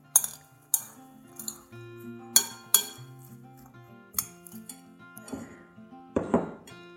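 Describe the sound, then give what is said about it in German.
A handful of radishes and two spring onions being mixed in a bowl for a salad: a utensil strikes the bowl in irregular, bright clinks with short ringing tones, followed by softer scraping and a clattering burst near the end. No one speaks. “Das mische ich jetzt schön miteinander und stelle es zur Seite.”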